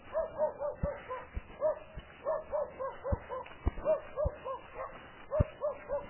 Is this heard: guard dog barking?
yes